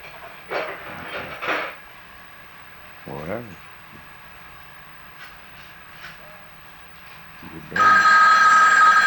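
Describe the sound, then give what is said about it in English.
A phone suddenly starts ringing near the end, a loud, steady electronic ring with a bright tonal edge, after a stretch of quiet broken by a few brief muffled sounds. “come get your phone.”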